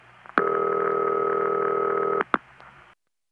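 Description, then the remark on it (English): A single dull, buzzy US Bell System telephone ringback tone, the type known as City Ring, sounds steadily for about two seconds, with sharp line clicks just before it starts and right after it stops. No one speaks. “Well, this is the ring that the phone freaks called City Ring. It's very dull. Definitely one of the main bell system rings for the US, namely these.”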